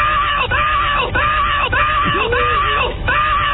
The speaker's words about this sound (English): Plus a woman screaming as she might if she were really, really enjoying herself.